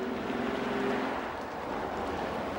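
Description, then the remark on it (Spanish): The engine of a white convertible sports car rumbles steadily with a dense, noisy hum as it rolls slowly into a used-car sales lot and comes to a stop. No one speaks. “llega a un aparcamiento de exposición de coches usados en su deportivo blanco descapotable.”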